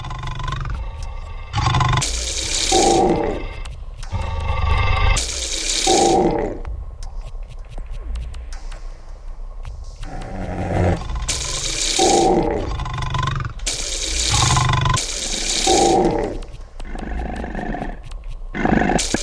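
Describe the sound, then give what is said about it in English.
A tiger-like roar in a video game repeats in loud, gravelly bursts, roughly every couple of seconds, harsh with a deep growling rumble, continuing steadily throughout with no talking. “What the hell is that supposed to be, a tiger?”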